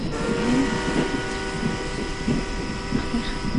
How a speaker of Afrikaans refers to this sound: Die ysterwiele, die stoom, die trein waarin strek agtertoe.